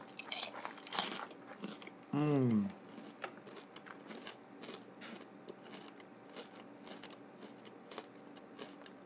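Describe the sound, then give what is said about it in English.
Crunching and chewing of popcorn, a steady crackly munching that runs throughout, broken briefly near the start by a short voiced hum or murmur. “Popcorn.”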